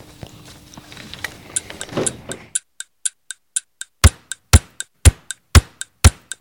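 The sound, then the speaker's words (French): A clock ticks in a steady, even rhythm, quiet at first over a brief muffled rumble, then becoming loud with heavier knocking ticks in the second half. “Tic tac toc, tic tac toc, tic tac toc.”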